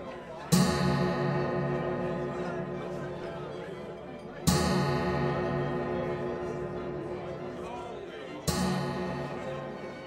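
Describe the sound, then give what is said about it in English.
A clock strikes midnight with deep, resonant bell tones, three slow strokes about four seconds apart, each ringing out loudly and fading into a long hum before the next. “The clock strikes midnight. All stop in silence, listening to it.”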